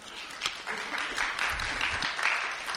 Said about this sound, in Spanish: ¿Algunos de ustedes han estado aquí las 7 semanas? Ah, qué bueno, qué bueno. Dense un aplauso por esa victoria.